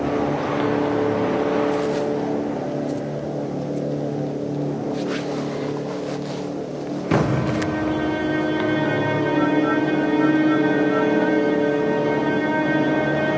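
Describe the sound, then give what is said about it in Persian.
A car engine rumbles steadily through a very long exhaust pipe, then jumps to a higher, harsher pitch about halfway through and keeps droning loudly, with no voices. “لوله اگزوزیه که اینقدر درازه.”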